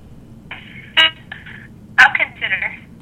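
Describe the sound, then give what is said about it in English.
Telephone dialing tones as someone gets on the phone with President Obama: a few short bursts of electronic beeping broken by sharp clicks, clear over a low, steady background murmur. “Look, I have I'm getting ready to get on the phone with President Obama.”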